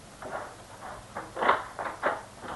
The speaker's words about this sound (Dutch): Deurtje open.